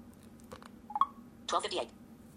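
A few short electronic beeps from a phone keypad as a phone is turned on and unlocked with a passcode, a quick tone near the middle followed by a brighter burst of tones, moderately loud over a quiet hum.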